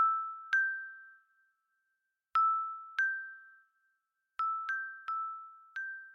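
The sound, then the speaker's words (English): Bright silver bells ring out alone in about seven clear strikes, each shimmering tone fading slowly, coming in loose irregular clusters with short quiet pauses between them. “The last thing Klaas heard before passing out was the fairies laughing, the sound of tinkling silver bells on the wind.”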